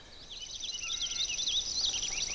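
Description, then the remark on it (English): A purple finch sings a rapid, jumbled warbling song of bright, high, rising and falling notes, running continuously over a steady, thin high-pitched drone, fairly soft overall, in the morning on the Cascade River Road in a boreal area of black spruce, cedar and lowlands. “Actually, what I'm hearing ahead of me is a purple finch.”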